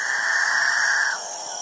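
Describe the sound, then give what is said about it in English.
Male capuchinbirds in a dawn chorus in the Guyanan jungle of South America: a loud, drawn-out moaning drone holds steady for about a second, then drops away, leaving a hissing wash of background calls. “It's the dawn chorus of male capuchin birds, one of the most bizarre members of one of the most bizarre bird families in South America, the Catingas.”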